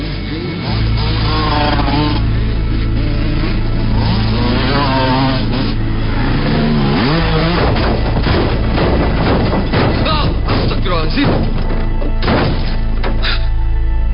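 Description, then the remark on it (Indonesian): A motorcycle carrying two riders revs loudly as it overtakes from behind on a bend, its pitch rising and falling, followed by a burst of sharp, heavy impacts as it crashes into a car. “terjadi sebuah tabrakan yang sangat keras.”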